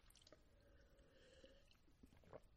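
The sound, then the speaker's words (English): Quiet sipping of water: soft wet mouth sounds and a few small slurps and clicks, with a slightly louder gulp near the end, no talking. “Get a little sip of water there”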